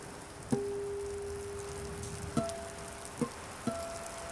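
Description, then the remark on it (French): Heavy rain from a terrible, windy storm pours down on roofs as a steady, even hiss, broken by four sharp, ringing drops striking a hard surface at irregular intervals; no one speaks. “Il y a un orage terrible avec beaucoup de vent, beaucoup de pluie, et la pluie crépitait à travers les toits.”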